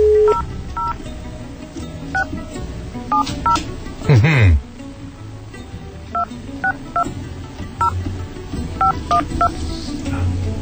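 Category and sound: signal or alarm, telephone dialing tones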